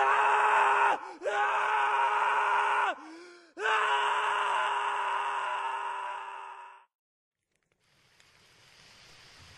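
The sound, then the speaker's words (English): Human screams: three long, sustained wailing cries in quick succession, each briefly dipping in pitch. The last one trails off, leaving only a faint, airy hiss. “for most of the way back to the firelit safety of Quindley, Michael heard the screams behind him”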